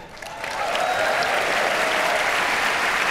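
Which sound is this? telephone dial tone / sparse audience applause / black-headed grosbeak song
sparse audience applause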